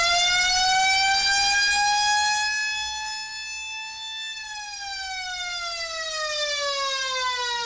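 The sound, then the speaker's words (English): The Sandusky stadium siren wails loudly into the night sky after a Sandusky touchdown at a football game, its pitch slowly climbing, holding, then sliding back down in one long sweep, with faint crowd rumble beneath and no voices. “And the famed Sandusky siren soars into the night sky.”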